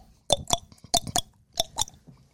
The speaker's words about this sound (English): I'm surprised y'all haven't heard me chewing on my tongue. He can hear it? Yeah. Because people will be across the room and go, can you please stop that? I don't know how you guys haven't heard it, to be honest.